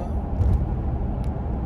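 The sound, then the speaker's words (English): An 18-wheeler truck veers right behind a car, almost taking its bumper off; its deep, steady engine and road roar fill the space, with a couple of brief airy hisses cutting through near the middle. “18-wheeler behind me just veered right behind me and almost took my fucking bumper off.”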